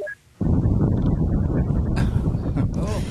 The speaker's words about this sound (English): There was it's wind. I thought cold immediately. Personal wind. Freezing. It's, you know, nature's wind.